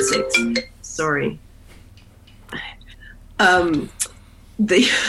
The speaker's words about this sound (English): I had locked my phone this morning, but apparently somebody got through. So I apologize for that.